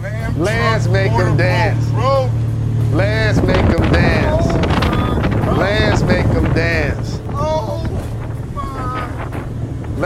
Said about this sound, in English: I want to show this video of one of my favorite basketball players ever. It is Lance Stephenson in Dubai driving a Lambo boat.